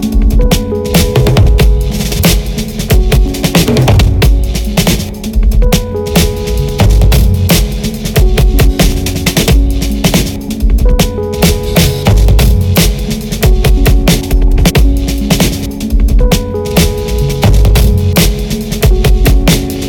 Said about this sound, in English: About halfway through, the track starts folding over on itself until it becomes a massive hiss before a breathy coda pops out the other side.